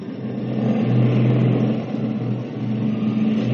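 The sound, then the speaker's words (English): Aircraft engines roar steadily during takeoff for a 15-hour duty patrol over the Atlantic Ocean, a dense droning rumble with humming low tones that swells a little louder and holds, with no voices. “AC to crew. Stand by for takeoff.”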